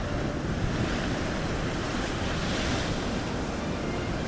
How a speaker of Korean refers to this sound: 드디어 방울 소리를 내며 들어갔는데 얼마 지나지 않아 파도가 소용돌이치면서 물거품이 위로 떠올랐습니다.